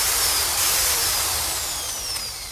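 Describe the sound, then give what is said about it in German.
The drill of the Perseverance Mars rover grinds steadily into hard ground to take samples, a loud, continuous rasping roar with a faint high whine slowly sliding downward in pitch, without voices. “Bis zu 40 Mal soll er seinen Bohrer ausfahren und Proben entnehmen”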